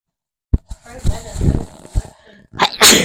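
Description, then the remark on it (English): A single sharp sneeze bursts out at the end, loud and breathy, following a couple of seconds of someone talking. “Bless you.”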